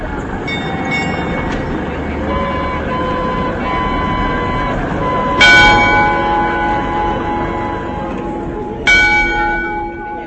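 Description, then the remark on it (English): The bell of the astronomical clock on Prague's Old Town Square, rung by the figure of death, chimes the hour, striking a few times with long ringing decays, clear, over a steady bed of noise from crowds of tourists. “As the clock chimes the hour, death rings the bell, and above the main dial, two doors open for the procession of 12 saints”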